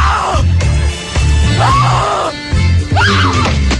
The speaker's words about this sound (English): She falls down and just starts screaming. I kid you not. Jeez. That's so hard to listen to, right? It's way hard, yeah.